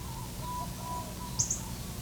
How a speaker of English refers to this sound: This is a minor bird in about in a hedge of Norfolk pine on the edge of the orchard.